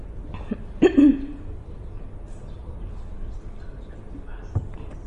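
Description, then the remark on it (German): A single rough throat clearing about a second in, a short gravelly rasp, then a quieter throat noise near the end over a low background hum, from a frog in the speaker's throat after coughing. “Und jetzt habe ich, glaube ich, einen Frosch im Hals.”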